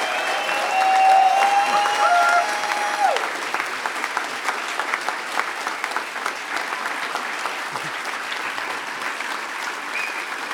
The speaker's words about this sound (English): Give him a huge round of applause for his closing comments.